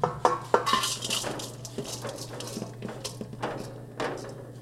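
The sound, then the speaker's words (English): Metal pan and utensils clatter and scrape in irregular bursts while food is sautéed, with sharp clinks early on over a steady low hum and a soft sizzling hiss underneath. “All right, now I'm going to take the garlic and breadcrumbs out of the pan, but we're going to use the same pan to saute everything together.”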